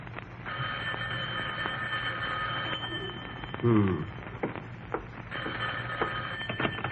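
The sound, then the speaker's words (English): An old-fashioned telephone bell rings loudly in two long, steady bursts in the den of Jack Benny's house in Beverly Hills, separated by a short pause with a brief vocal sound in between. “Rochester, the phone.”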